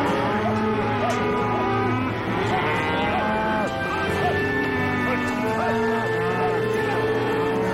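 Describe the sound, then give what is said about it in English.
Many cattle moo and low over one another in a dense, continuous chorus, loud, with a steady rustle of hooves and movement underneath, as ranchers guide the herd and the cattle squeeze into a pen. “The cattle squeeze into the pen.”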